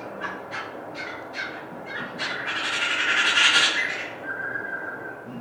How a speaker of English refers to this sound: I can't remember what type of jay it is, but it sounds similar to the stellar jays you have around here.